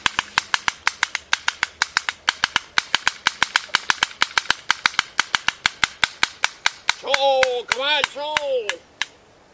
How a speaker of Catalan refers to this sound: S'acosta un cavall!